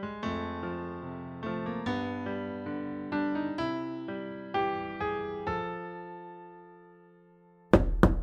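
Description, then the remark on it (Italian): A few gentle piano-like notes ring out and fade to near silence, then two sharp, loud knocks on a door land close together right at the end. “Intanto bussano ancora alla porta.”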